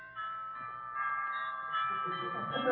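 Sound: doorbell ringing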